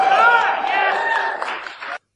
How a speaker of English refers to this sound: That was not a big cheer.